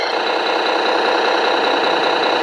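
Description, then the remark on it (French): A large MAN truck engine from Fribourg, Switzerland, idles steadily while waiting to set off again, a dense, continuous mechanical rumble with a faint rhythmic knock and no voices. “Dans le bruit du camion qui tourne à vide, là, en attendant de repartir.”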